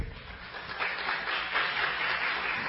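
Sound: audience applause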